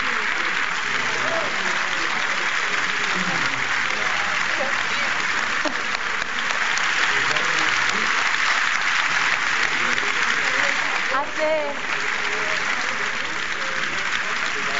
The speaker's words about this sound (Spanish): Aplauso larguísimo para ellas.